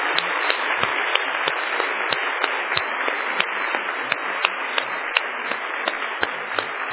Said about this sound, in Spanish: Y vamos un aplauso y darle las gracias al Señor.